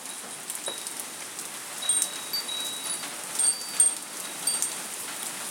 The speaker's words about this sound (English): I think I'm a bit obsessed about the rain, and it's coming down really hard now. Probably when I get to the door it'll stop.